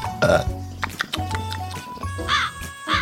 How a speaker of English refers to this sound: The clever bird drank greedily. It swallowed and it slurped. And when the crow had had enough, it gave a little burp.